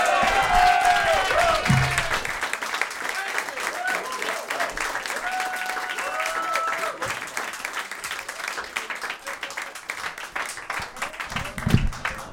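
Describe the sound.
An audience applauds comedian Todd Glass steadily for about twelve seconds, dense clapping holding at an even level, with a voice and some cheering rising over it in a few places.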